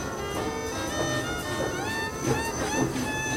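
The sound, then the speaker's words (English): A passenger train rolls steadily along the rails with a continuous rumble, its wheels clacking at uneven intervals while faint metallic squeals and whines rise over the moving carriage. “Imagine what it was like 100 years ago, boarding one of those trains with other newcomers.”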